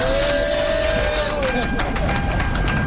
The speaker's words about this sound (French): Nous sommes en voiture, dans la voiture d'Assalfo qui n'a pas de chauffeur pour le FEMUA